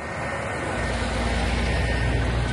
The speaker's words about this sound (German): Nun rollen die ersten Lkw in Richtung Gazastreifen.